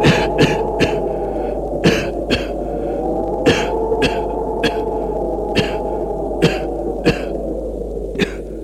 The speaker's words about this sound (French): Une fumée blanche sort du tombeau qui a une odeur désagréable. Ça les fait tousser.